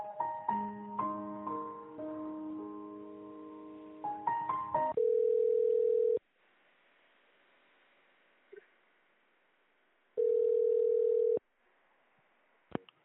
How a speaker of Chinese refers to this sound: 为了保证服务质量，本次通话将被录音，电话正在接通中，请稍后。坐席正忙，请稍后。